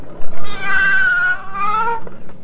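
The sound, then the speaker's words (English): A cat lets out one long, drawn-out meow, fairly loud, its pitch wavering and dipping before trailing off. No one speaks. “Listen to the cat.”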